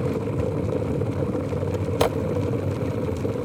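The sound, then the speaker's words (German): An electric kettle in a studio kitchen roars steadily as it brings fresh water to a boil for tea, a dense low rumble with hissing bubbling on top and one sharp crackle partway through. “Und der kocht jetzt hier frisches, sprudelndes Wasser.”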